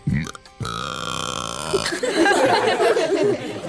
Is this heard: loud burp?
yes